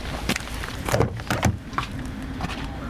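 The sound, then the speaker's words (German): A car starting and pulling away on an island: a steady low engine rumble with a few sharp mechanical clunks in the first second and a half, with no voices. “wir sind jetzt hier unterwegs, im Auto von Gulyem, gerade eben gestartet”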